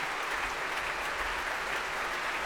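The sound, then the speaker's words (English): Sustained applause from a large audience on its feet at the Royal Albert Hall after Le Concert Spirituel, conducted by Hervé Niquet, performed Handel's Music for the Royal Fireworks; dense and steady with no clear pauses, a broad wash of clapping without voices. “All of them on their feet, bowing to this huge crowd at the Royal Albert Hall.”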